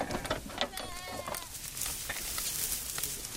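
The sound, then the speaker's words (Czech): Several sheep bleat as they run from an opened transport trailer into an enclosure in an orchard in Droždín and start grazing tall grass, their wavering cries overlapping in the first half, followed by a steady rustling, outdoor background noise with no one speaking. “Po otevření přepravníku ovce okamžitě vbíhají do ohrady a pouští se do spásání vysoké trávy.”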